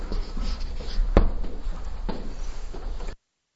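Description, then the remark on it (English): A Hare Krishna pen scratches steadily across a surface for a few seconds as words are written down, with soft continuous scraping strokes and a sharp tap partway through, moderately loud, no voices. “I will write this down for you because this has something to do with strength.”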